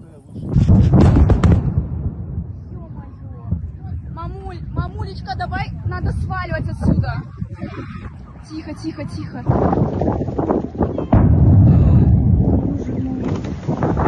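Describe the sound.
Deep rumbling explosion blasts from a Ukrainian raid on a Russian base in occupied Crimea, one early and two more heavy bursts near the end, with startled tourists on a nearby beach talking and exclaiming between them over rough wind noise.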